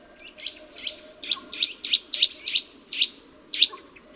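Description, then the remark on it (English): A blue Eurasian nuthatch sings a steady series of about a dozen clear, repeated whistled notes, loud, over a low background rumble, while running head-down along the trunk of an oak tree. “Look up now along the oak tree's trunk, where you'll come across some interesting birds, such as this blue nuthatch, running down the tree's trunk upside down in an acrobatic pose.”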